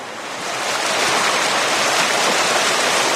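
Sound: river water flowing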